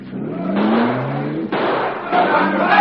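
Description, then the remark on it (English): A car engine revs loudly and accelerates hard, its rising whine climbing in pitch and briefly dropping between gear shifts before surging again. The car is the Black Beauty, which has a super-powered motor, speeding past a police stop with a squad car following. “You can't stop. Step on it, quick.”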